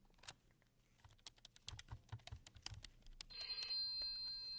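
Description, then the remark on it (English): Rapid keyboard typing clatters for a few seconds, then a telephone starts ringing, a bright, steady electronic trill that grows loud and continues to the end. No one speaks. “Rodney, the phone, please.”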